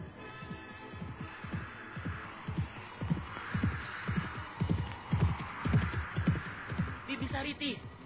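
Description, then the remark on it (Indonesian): Hooves of the horse Si Tunggul, ridden toward the Sunda royal palace, gallop in a steady, rapid rhythm of dull thuds, moderately loud, continuing throughout without pause. “Setelah dapat menguasai kuda itu, mereka kemudian melarikan si tunggul menuju keraton Sunda.”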